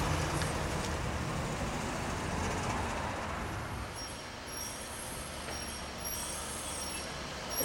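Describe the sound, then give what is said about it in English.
A Cutlass Supreme car drives into an underground parking garage, its steady engine rumble and road noise echoing in the enclosed space, with faint high-pitched tire squeals near the end. No one speaks. “Drive up here and make a ride into the underground parking garage.”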